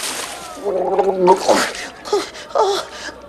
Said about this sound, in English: He pushes him into a bucket of icy water below.